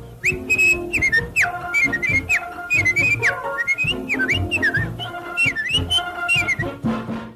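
A clear, melodic whistled tune with gliding, bouncy phrases, played over a full musical backing with steady rhythm; loud throughout.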